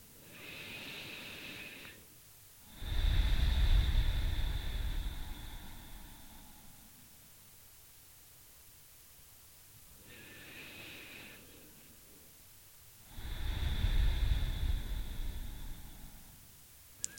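deep breaths

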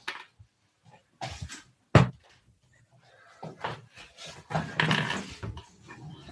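door being closed

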